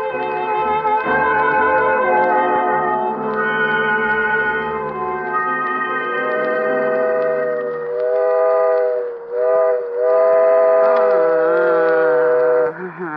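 A steam whistle blows long, loud chords that waver and bend in pitch near the end, over the low rumble of a running train at the start.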